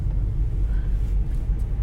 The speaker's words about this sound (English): You can probably hear by the sounds around me, I'm behind a sports car and they think they're super awesome. So, you know, they're trying to like rev their engine while going 20 miles per hour like an asshole.